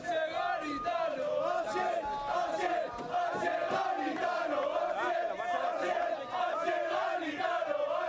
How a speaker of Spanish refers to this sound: Este era uno de los gritos que se coreaban anoche en Butarque a la llegada del Leganés allá, más allá de la 1:00 a.m.